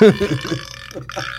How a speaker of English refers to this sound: Well, he thought of it, and he did provide the belching sounds.